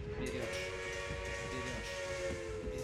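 A passenger train runs along the rails with a steady, loud rumble and a sustained tonal whine riding over it, continuous for the whole stretch with no voices.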